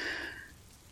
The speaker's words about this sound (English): It's been raining off and on, thunder and lightning. Thunder and lightning.